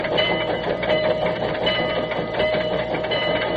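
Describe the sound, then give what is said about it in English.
The General, a steam locomotive built in 1855, rolls steadily along the rails, a loud, continuous rumble and clatter that holds at an even level throughout, with no voices. Recording issued by the Louisville and Nashville Railroad. “This is, by the way, the only authorized record of the actual sounds of the General.”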